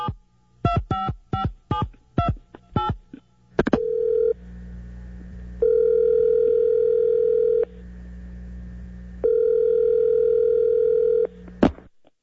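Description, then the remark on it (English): A quick run of about eight keypad beeps dials a phone, then a steady electronic ring tone sounds in long, evenly spaced bursts before a click at the end; no one speaks. “I don't know what else to call this other than somebody sent it to me, and this is the audio of the phone call that actually sent Josh to L.A.”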